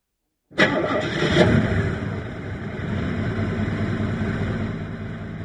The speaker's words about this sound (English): The driver started moving the car back a little bit in order to turn around.